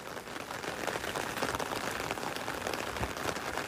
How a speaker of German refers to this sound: 1. Juli 2024. Trainingsauftakt im Regen vor 600 Fans in Gettorf, einer Gemeinde im Kieler Umland.